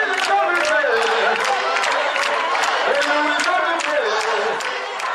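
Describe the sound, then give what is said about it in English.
A large crowd sings together in a loud, continuous chorus, with hands clapping in a steady rhythm throughout, in a big arena, as mock troops with papier-mâché swords storm the space singing and clapping. “Choirs come and go from the big arena, and the mock troops of the Lord's Chosen with their papier-mâché swords jokingly storm the space from time to time, singing and clapping.”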